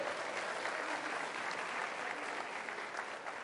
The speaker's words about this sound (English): It's great to be in the United States of America. Yeah, we could give a round of applause for that.